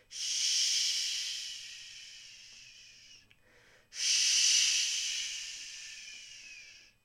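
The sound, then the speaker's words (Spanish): Tenor and soprano voices imitate whistling wind with two long, breathy hissing blows, each starting strong and slowly fading over about three seconds, separated by a brief pause. No one speaks. “Empezamos haciendo sonar una especie de silbido, como si fuera el viento.”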